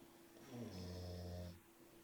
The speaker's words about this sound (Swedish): Om ni undrar varför det är någon som snarkar så är det min hund som låter.